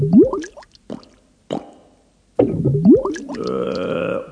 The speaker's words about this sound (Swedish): En stor bubbla kom upp ur vattnet och det liksom hördes en röst i den. Och där kommer en till.